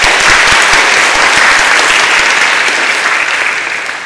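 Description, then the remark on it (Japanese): Steady welcoming applause from a sizable church audience at a Shinagawa Church worship service, greeting first-time attendees, dense and continuous for a few seconds before tapering off slightly at the end, with no talking over it. “皆さん歓迎の拍手を、はい、”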